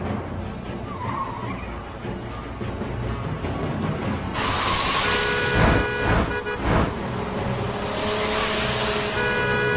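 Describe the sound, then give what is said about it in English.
A car engine rumbles steadily, then tires screech sharply as the vehicle skids and accelerates hard, with squealing whines and a few loud bumps over a continuous roar. “Maybe like the only working car around here. I'm not stopping until we're clear of it.”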